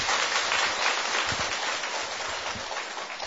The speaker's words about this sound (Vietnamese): Các vị tự thưởng mình một tràng pháo tay nữa đi.